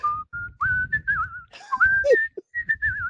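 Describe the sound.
A person whistles a lively pop tune, the melody gliding and sliding between notes in short phrases, with soft low rumble underneath and brief pauses between lines.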